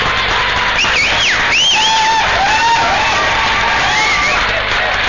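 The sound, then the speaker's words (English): Neston Primary School pupils and teachers clap and cheer continuously to give thanks at the end of a radio QSO, with shrill, rising shrieks and whistle-like calls standing out above a dense, steady wash of applause and chatter. “As you can hear, there's an awful lot of applause there.”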